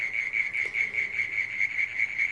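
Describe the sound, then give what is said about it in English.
Crickets chirp steadily at night in a front garden in Australia under a completely clear sky, a dense, high-pitched pulsing trill with a regular rhythm, continuous, with no voices. “Say hi to the crickets.”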